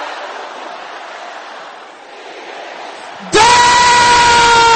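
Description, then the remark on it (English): A large audience shouts a prayer together in a dense, loud roar of overlapping voices, then abruptly switches to a strong, sustained ringing tone that holds steady to the end. “Brothers, shout it loud and clear.”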